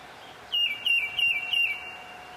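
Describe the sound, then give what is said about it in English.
A tufted titmouse, a common feeder bird, sings four clear, evenly spaced whistled phrases, each a quick two-note slurred 'peter', ringing out loud against a faint, steady background hum, on a trail near Bethlehem. “This is a common feeder bird, the tufted titmouse. It says, "Peter, Peter, Peter."”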